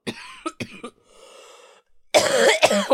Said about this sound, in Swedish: Alltså nu med min hosta och allting så är det ju. Alltså det låter ju som dina lungor ska åka upp. Jag vet. Den här hostan är inte toppen.